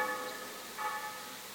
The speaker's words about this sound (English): Oh, well, I suppose you're all here to join in the bell ringing practice.